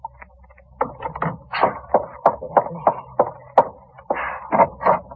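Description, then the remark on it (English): Someone knocks at a door, about a dozen sharp, hollow raps in quick uneven clusters, fairly loud and with no voices. “I don't know, but there's someone at the door.”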